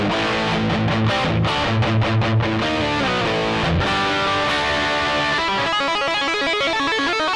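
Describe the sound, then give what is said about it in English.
A crunchy, distorted electric guitar on a mellow rock distortion setting with a rock crunch tone plays rhythmic chords and riffs, shifting into faster repeated picked notes near the end; loud and dense, with no voices. “More of the rock crunch type sound.”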